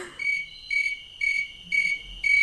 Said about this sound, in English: pretty soon your whole car is full of chirping crickets, and then you hit a bump and they stop